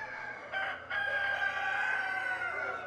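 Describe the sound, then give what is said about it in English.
A Barred Plymouth Rock rooster crows loudly and at length at the University of Georgia poultry science department. Its drawn-out call stands out over softer clucking from four Barred Plymouth Rock hens. There is no talking. “This is a little family of Bard Plymouth Rocks.”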